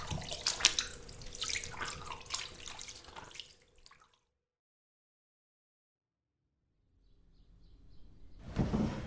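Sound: shower water running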